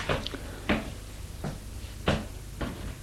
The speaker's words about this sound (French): Puis, au bout d'un moment, elle a frappé à la porte.